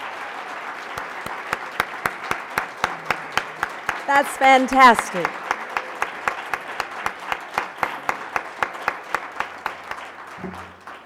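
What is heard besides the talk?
audience applause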